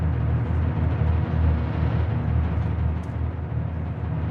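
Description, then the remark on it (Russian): A deep, continuous rumble of thunder rolls on without a break, heavy in the low end and steady in loudness, with no voices over it. “Слышен гром, все испугались.”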